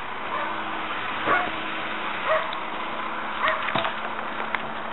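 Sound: dog barking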